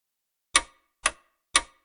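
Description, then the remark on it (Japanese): Three crisp clock ticks from a clock whose hands have passed 9 at night, evenly spaced about half a second apart, each a sharp click with a short decay, heard alone against silence. “時計の針は夜9時を回り、どうにか今日の仕事も目処が立ってきたとき”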